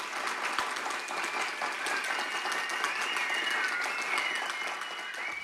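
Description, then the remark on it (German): Steady applause from a school class of children in a basement radio studio, a dense patter of many hands clapping at once, with a few excited cheers and whistles rising above it. “Die Gastgeber der heutigen Sendung ist die großartige, superschlaue Klasse E2. Applaus!”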